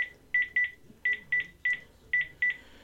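A quick series of short, bright touch-tone beeps from a phone being dialed, eight tones in uneven bursts, clear with no talking.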